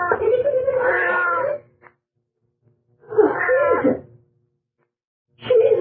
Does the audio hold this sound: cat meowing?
yes